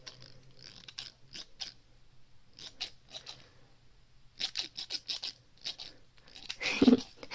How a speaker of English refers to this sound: Oh, actually, I do have my alligator scissors with me. This is what they sound like.